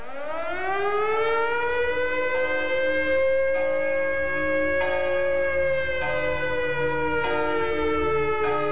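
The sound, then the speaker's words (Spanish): A loud evacuation alarm, bells calling for the evacuation of New York City before the invaders arrive, heard from the rooftops of the CBS building, swells up and then holds a steady, blaring wail for several seconds, sounding alone without any voices. “Las campanas que pueden oír están llamando a la evacuación de la ciudad ante la inminente llegada de los invasores.”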